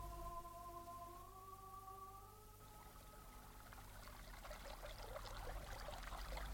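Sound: flowing river water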